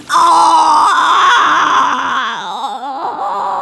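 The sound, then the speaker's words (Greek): A wolf's loud, high, sustained wailing howl of pain after it lands in a pot of hot water at the bottom of a chimney; the howl holds steady for about three seconds, then wobbles and quavers in pitch as it trails off, with no talking over it. “Ούρλιαξε από τον πόνο και πετάχτηκε σαν βολίδα πάλι πίσω στην καμινάδα από εκεί που ήρθε, νομίζοντας ότι η ουρά του είχε πάρει φωτιά.”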